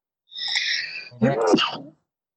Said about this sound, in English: Bless you. I heard a sneeze.